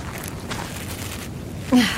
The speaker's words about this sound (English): He's breathing. I'll double check him for hidden weapons and then you can carry him.